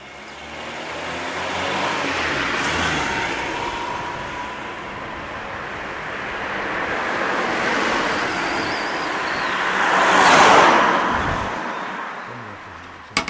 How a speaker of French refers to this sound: c'est juste à côté, il y a un endroit où ils entretiennent les hélicoptères de l'armée, et en ce moment on est un petit peu en guerre, donc ça fait un petit peu du bruit les hélicoptères.